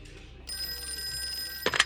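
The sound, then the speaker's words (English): A telephone at a sheriff's station rings with a call from a retired heavy equipment operator, a steady, high bell-like trill that starts abruptly and holds for over a second, fairly clear, before a brief rustling clatter cuts in at the end. “And then a phone call from a retired heavy equipment operator confirmed the truck driver's story.”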